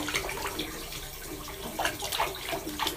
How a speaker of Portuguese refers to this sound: Eu acho que qualquer coisa na água é tipo uma meditação. Esse barulhinho que flui assim, tipo, nosso pensamento fica meio parecido com esse barulhinho da água.